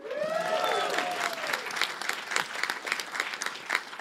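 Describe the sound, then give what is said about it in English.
An audience bursts into steady, crackling applause lasting several seconds, with a few sliding whoops or whistles rising over the clapping early on before fading into continuous hand claps. “Yes, hold for applause.”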